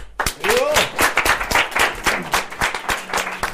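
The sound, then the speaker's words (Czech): A small audience at an evening event applauds to welcome two musicians, with steady, fairly dense clapping that stays lively throughout, with a few brief vocal whoops or cheers rising over the claps. “Takže myslím si, že prožijeme hezký večer a mohli bychom přivítat potleskem.”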